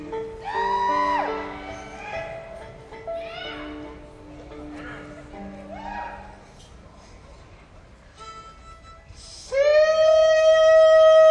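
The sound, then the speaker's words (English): A man performing for an audience belts out a demonstration string of hog calls, his voice swooping up and down in drawn-out cries, finishing with a loud, sustained holler. “Well, just in case you don't know how to give a hog call, I'll give you a quick demonstration, excuse me.”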